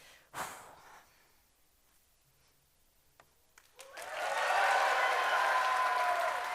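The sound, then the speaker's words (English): A short breathy burst and a few faint clicks, then an audience breaks into loud, sustained applause for a one-disc speed Tower of Hanoi solve, with dense, rapid clapping that holds steady to the end. “If you're clapping that hard for this, looking forward to what you do later.”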